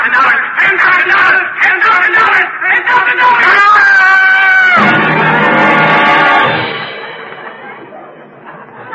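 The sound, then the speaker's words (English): A loud, drawn-out scream rises out of a noisy jumble of voices and shouting, then the din trails off and fades toward the end. “Did that scream frighten you, Brutus?”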